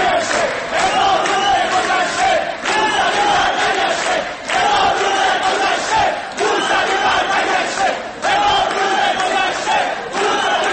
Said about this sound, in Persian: دانشجویان با اشاره به گذشته بیش از 1000 روز از حصر این ستم شعار می‌دادند: پیام ما روشن، حصر باید بشکنه.